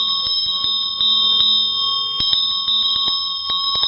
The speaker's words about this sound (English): But this is Geshe Sampa's bell. This is such a nice one. Oh, my God. Look at the detail on this thing, and listen to the sound of it.